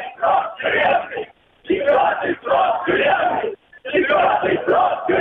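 A crowd of protesters marching toward Nevsky Prospekt in St. Petersburg, Russia, shouts slogans in unison such as "Freedom for Navalny", "Putin is a thief" and "fourth term is a prison term", loud rhythmic chanted phrases broken by brief pauses between repetitions.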